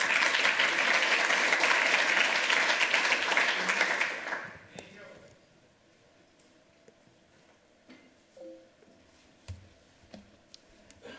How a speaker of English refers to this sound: Round of applause for whatever made that work.